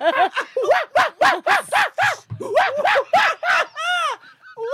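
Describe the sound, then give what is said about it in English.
A voice imitates the calls of an Amazonian monkey wanking: a rapid series of loud, hooting, arched yelps, about a dozen in quick rhythm, ending in a longer high whooping cry and softer squeaks. “That's the sound of a that's the sound of an Amazonian monkey wanking.”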